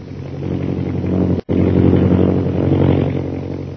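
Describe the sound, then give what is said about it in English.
A loud, steady airplane engine drone hums continuously with a deep rumbling tone, broken only by a split-second dropout near the middle, as an airplane flies high overhead toward a pass and into the northwest over jungle. No one speaks. “High overhead, an airplane bearing Myra Trent flies into the northwest”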